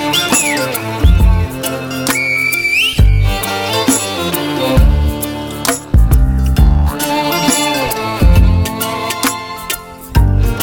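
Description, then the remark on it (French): A short, piercing whistle, given as a farewell, glides upward and holds briefly, riding over loud, busy music with heavy bass and sharp percussive hits that carry on throughout. “et à nouveau un sifflement pour se dire adieu.”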